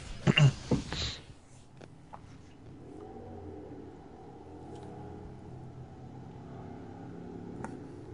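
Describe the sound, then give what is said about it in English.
A motorcycle engine sputters with a few loud, rough bursts, then settles into a steady, low idling rumble that continues until the end. “Yes, that's a motorcycle farting.”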